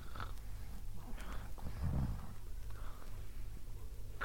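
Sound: man snoring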